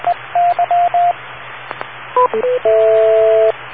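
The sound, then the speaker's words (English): Radio beep tones over steady static hiss: a string of short, even mid-pitched beeps, a quick jumble of stepped tones, then one long, steady two-note beep. No one speaks. “wait for the beep.”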